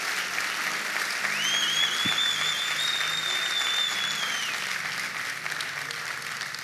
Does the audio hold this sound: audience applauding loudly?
yes